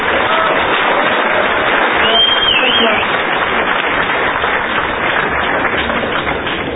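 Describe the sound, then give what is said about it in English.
An audience applauds a speaker before his talk, a dense wash of clapping hands that holds at an even, loud level for several seconds without pause. “So let's give him a round of applause for zooming in just for us.”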